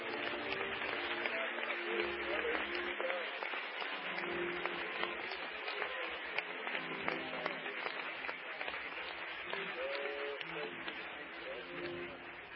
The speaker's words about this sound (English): Oh, hallelujah to our great God. Let's give the Lord a good hand clap of praise.